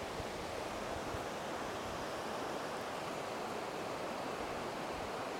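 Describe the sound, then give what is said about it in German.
A river's current rushes steadily and breaks on rocks in the river, a dense, unbroken hiss of moving water filling the whole stretch at an even level, with no voices. “Und weiß das Wasser, wo die Strömung sich an Felsen bricht.”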